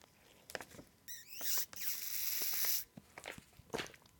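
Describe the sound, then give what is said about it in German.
Crinkling and rustling of a foil Capri-Sun drink pouch as someone takes a sip, with scattered crackles, a brief straw-squeak rise, then a steady hissing slurp lasting over a second before more crinkles. “Capri-Sonne, nervigstes Geräusch mit ihrem und so, das Knistern.”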